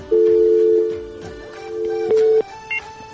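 A caller's phone line to a song-request program cuts off from a technical problem: steady electronic tones hold for a few seconds, stepping between pitches, then give way to a brief higher beep, with no voices present.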